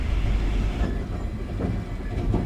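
A train rumbles steadily along the tracks, a loud, continuous low roar with faint rhythmic clatter from the wheels, with no voices.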